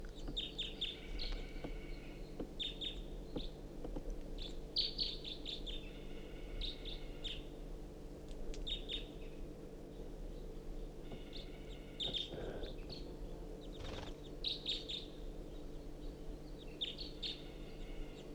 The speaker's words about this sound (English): There is a crossbill, I think one bird, foraging in the ponderosa pine directly above the truck.